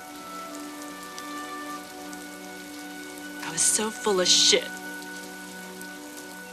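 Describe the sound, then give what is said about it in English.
Steady rain patters throughout onto wet grass outdoors, a constant hiss of drops, while a person briefly speaks in a strained, emotional voice near the middle. “Tears run down her cheeks, mingling with the rain.”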